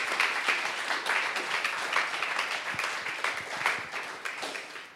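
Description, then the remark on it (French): An audience applauding the worship team: dense, steady clapping from many hands, a continuous crackly wash with sharp individual claps poking through, fairly loud and sustained for the whole stretch. “Je propose qu'on les applaudisse.”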